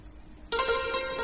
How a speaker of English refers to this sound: It's quite loud, isn't it? This is really ….